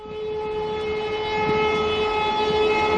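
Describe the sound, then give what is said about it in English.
The whistle of a train bound for East Anglia sounds a long, steady, multi-toned blast, held loud and unbroken, over a low rumble of the moving train. “sat on a train bound for the wastes of East Anglia.”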